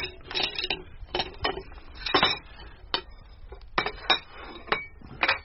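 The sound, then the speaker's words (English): Plates and cutlery clink and clatter as a cold supper of chicken, salad and potatoes is served, in an irregular series of sharp, bright knocks and chimes, some ringing briefly, with a low murmur of background noise and no clear speech. “Careful with that plate, Mank.”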